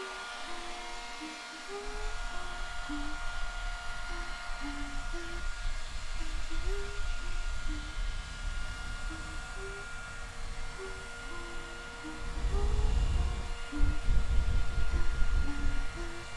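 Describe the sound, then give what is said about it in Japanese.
A hair dryer blows steadily as it is used on someone's hair, with a constant whooshing rush of air over a motor whine that swells a little louder near the end. “はあ、ドライヤーかけるね。”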